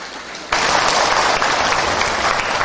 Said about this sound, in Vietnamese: Mà chúng ta không cần phải mướn cái hôn ở đâu, hay là chúng ta sinh hoạt những cái nơi nhỏ nhỏ. Xin quý vị tán thán một tràng pháo tay.